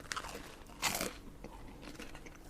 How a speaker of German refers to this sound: Es knuspert ja hier.